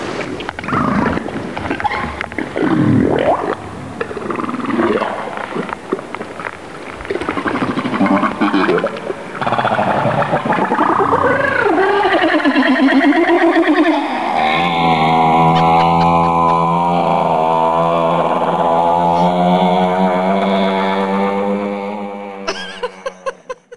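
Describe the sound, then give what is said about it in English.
A run of humpback whale social calls: sliding moans, grunts and whoops, ending in a long, loud, buzzing harmonic call that drones for several seconds before cutting off, with no talking. “But Brenda says these whales are also known for their social chatter.”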